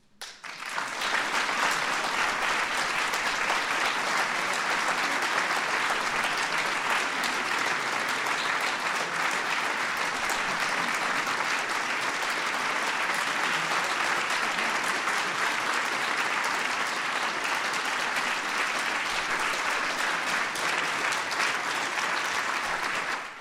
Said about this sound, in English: Let's give a big round of applause to all our awardees.